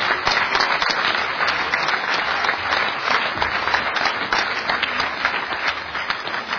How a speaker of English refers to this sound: So, and I'm thankful for the work that this team did. So, give the team another round of applause.